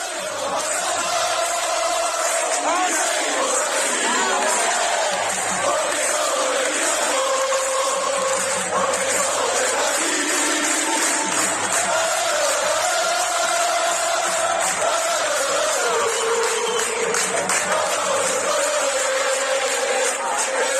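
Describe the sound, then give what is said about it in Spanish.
A large crowd of Racing football fans chants and sings in unison while marching from Tetuán to the Campos de Sport del Sardinero stadium, a loud, steady roar of voices with rising and falling melodic lines that carries on for the full twenty seconds. “Esto es lo que se escuchaba aparte de ese tránsito desde Tetuán hasta los campos de Sport del Sardinero.”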